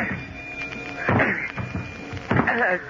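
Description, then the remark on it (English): Two heavy, dull thuds against a solid, jammed stateroom door aboard a ship, about a second apart, as someone tries to break it down. There is a low background hum, and no one speaks. “Don't seem to be able to open this door. But it's the only way out of here. It's jammed. Maybe I can break it down.”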